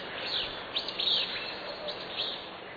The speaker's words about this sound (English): Now the raspy Fitzbew song of a willow flycatcher.